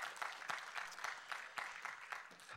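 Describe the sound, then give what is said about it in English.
A church audience applauds the Lord in 2021, before the offering is picked up: a steady, dense patter of many hands with a few sharper claps standing out, sustained at a moderate level with no voices. “So would you applaud the Lord today in 2021?”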